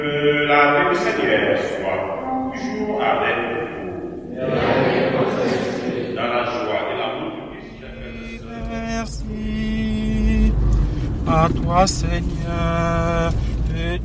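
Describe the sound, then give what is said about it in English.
An African priest, a missionary in France, sings a hymn from the Congo at the wheel of his small car as it drives through the Alsatian countryside, his voice clear over a steady low engine and road rumble that swells toward the end. “at the wheel of his small car, singing a hymn from the Congo as we zip through the Alsatian countryside.”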